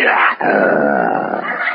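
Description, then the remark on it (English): A person imitates with their voice the roar of a lion in the jungle at night, a loud, rasping growl sustained for nearly two seconds after a brief catch near the start. “The roar of the lion.”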